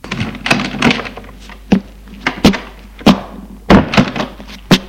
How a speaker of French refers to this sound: La porte s'ouvre.